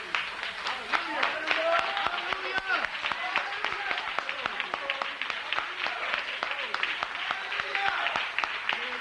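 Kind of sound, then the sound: crowd, audience clapping hands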